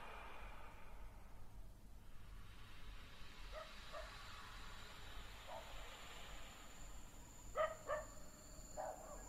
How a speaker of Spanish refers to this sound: El ladrar estirado, largo en la noche, lo que hoy tengo. Dejaste conmigo a tus perros.